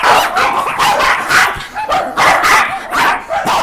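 Five small, yappy dogs bark repeatedly in quick, overlapping bursts, several high-pitched yips piling on top of each other, loud and continuous for a few seconds, as someone walks them outside.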